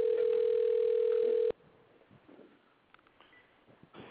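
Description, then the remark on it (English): A loud, steady telephone ringback tone of an outgoing call sounds once for about a second and a half, then cuts off, leaving a quiet line with faint clicks and low background noise; the call is not answered and goes to voicemail. “Okay, it's ringing. Let's see if he answers.”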